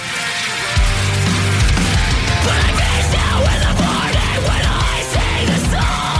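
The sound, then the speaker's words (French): A loud, dense metal rock cover of a pop song plays continuously, with heavy distorted guitars, pounding low drums and harsh screamed vocals riding over the wall of sound. “Ils trouvent toujours un moyen de prendre une toune pop ou une toune plus tranquille, la virer en version metal rock.”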